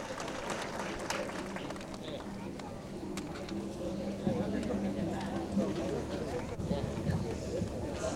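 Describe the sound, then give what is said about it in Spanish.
A crowd claps steadily for several seconds, a dense patter of hands with scattered sharper claps, mixed with a murmur of voices and general crowd noise at a fairly even level. The applause welcomes a jarocho music group, from the Los Tuxtlas region, at a state fandango contest. “El aplauso fuerte, señores, por favor.”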